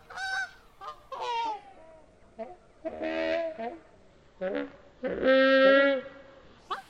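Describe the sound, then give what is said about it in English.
Goose honks slowed down by sound designer Gary Rydstrom as the Brachiosaurus calls in Steven Spielberg's 1993 film Jurassic Park, deep and mournful like giant creature calls, repeating in drawn-out bursts with short pauses between, fairly loud with no talking. “To create these mournful calls from the Brachiosaurus, sound designer Gary Rydstrom slowed down the honks of geese.”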